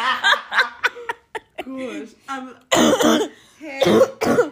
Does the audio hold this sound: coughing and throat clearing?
yes